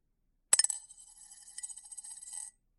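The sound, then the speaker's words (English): A farmer drops a gold coin into a glass bottle with a sharp clink; it bounces a few times in quick succession, then rattles and rings on briefly inside before stopping. No voices. “The farmer then put his coin into the bottle prepared by the king's servant.”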